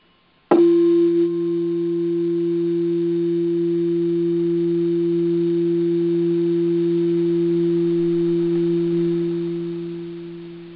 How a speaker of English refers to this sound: Oops. Just a moment. My refrigerator just came on here with a 60-cycle hum, so I hope you're not hearing it through there.